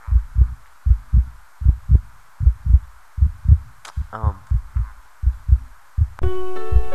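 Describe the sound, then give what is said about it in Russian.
A steady, low heartbeat thumps in paired lub-dub beats, loud and regular. A brief wavering whistle cuts in midway, and a sustained harmonic tone enters at the very end. “Под эти звуки сердца я передаю вам многое.”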